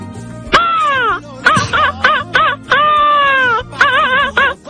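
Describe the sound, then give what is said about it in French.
A voice imitates a seagull's cry: loud, strongly harmonic wailing calls, a long drawn-out squawk followed by a run of shorter warbling yelps, repeated twice with no words. “Refais-moi la mouette une dernière fois.”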